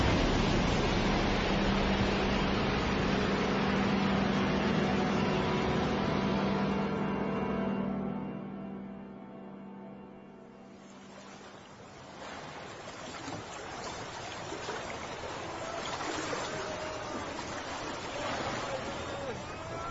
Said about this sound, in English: And then, suddenly, the whole after part of our hull broke asunder. The sea leapt in and all became surging water.